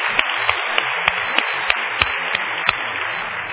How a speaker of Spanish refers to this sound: El Señor los bendice. Amén. Un aplauso a ellos.